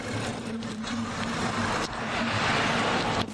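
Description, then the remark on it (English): A pickup truck drives past on a street, its engine rumbling with a steady low hum and road noise that swells louder toward the end. “But he's also a big jerk in a pickup truck.”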